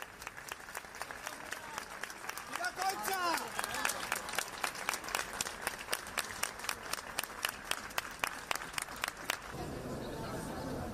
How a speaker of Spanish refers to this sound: así que su féretro estuvo en ese teatro, La Latina, y la gente lo recibió a las puertas del teatro con este aplauso improvisado.